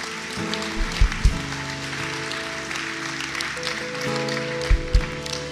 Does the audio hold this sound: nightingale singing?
no